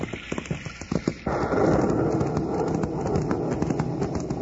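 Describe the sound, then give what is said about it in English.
Steady rain comes down as a dense, hissing wash after a second or so of scattered, uneven taps, just inside the United States after coming up from Mexico. The downpour stays loud throughout, with no voices. “The minute we get back in the United States, it starts to rain.”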